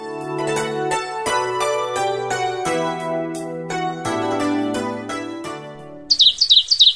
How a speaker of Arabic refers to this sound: أشرقت الشمس وعزفت العصافير سمفونيتها الرنانة